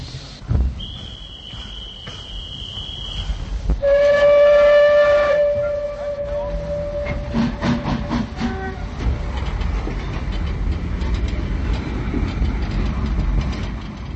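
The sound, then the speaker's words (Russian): A station duty officer's shrill high whistle sounds briefly, then a train's loud, drawn-out whistle blares for several seconds as the train starts moving, followed by a steady rolling rumble of wagons pulling away. “Дежурный по станции свистнул. Проводница помогла девушке подняться на площадку вагона и махнула флажком. Поезд готов к отправлению.”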